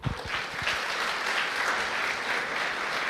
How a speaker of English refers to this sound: So I'd like to invite her up here. I'd like you to give her a round of applause.